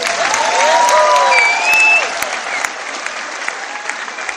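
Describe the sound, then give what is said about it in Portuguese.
A crowd claps steadily in a dense, loud wash of applause, with a few shrill whistles and cheers rising over it in the first two seconds before the clapping eases slightly. “Pode bater palmas.”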